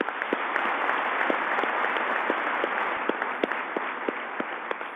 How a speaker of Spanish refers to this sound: Les agradecemos de corazón y les damos un aplauso.